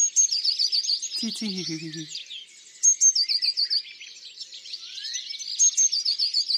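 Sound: blue tit song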